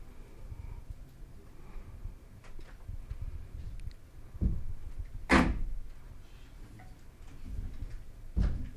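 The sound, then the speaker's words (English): A locked door being opened: a few sharp metallic clicks and clunks of a latch, one loud bang in the middle and another near the end. “can you help those door open? There is some bottom, there is locked.”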